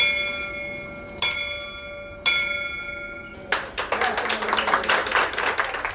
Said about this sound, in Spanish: Y es así como suena esa campana.